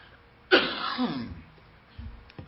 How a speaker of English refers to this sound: Excuse me. I'm having problems with asthma this week and I keep coughing.